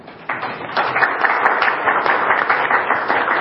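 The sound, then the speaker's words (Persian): An audience at a meeting breaks into steady applause after a brief moment, many hands clapping in a dense, continuous patter that stays loud until the end, with no talking. “خب یه تشویق کلی بفرمایید.”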